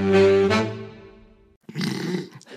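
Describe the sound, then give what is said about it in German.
A suppressed burp rumbles low in the throat, a muffled guttural tone that fades out over about a second, followed by a short burst of breathy, rustling noise. “Nee, noch schlimmer, das war so ein interner Rülps.”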